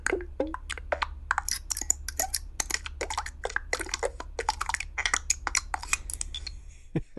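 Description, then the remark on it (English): A quick succession of short synthesized button clicks and blips, a set of 38 would-be button sounds for a Yahoo widget, each a little different in tone and brightness, playing one after another on their own over a faint low hum. “So typically what I do is I create a bunch of button sounds. These are would-be buttons for a Yahoo widget.”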